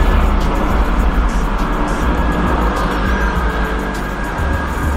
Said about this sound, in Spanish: Estamos haciendo una pausa para que pase el helicóptero. Ahí sí no hay nada que hacer, ¿no? Ahí sí no podemos tirarlo.